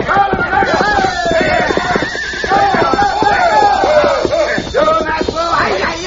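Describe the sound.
A horse whinnies loudly and repeatedly, with shrill, wavering neighs layered over a busy rush of galloping hoofbeats and some shouting voices, all continuous.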